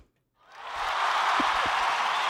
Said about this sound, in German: Applaus hat schon was.